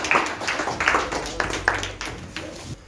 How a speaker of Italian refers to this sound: Guarda, prima della conclusione io farei un applauso alla dottoressa che è venuta qui, grazie.